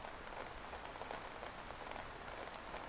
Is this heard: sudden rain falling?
yes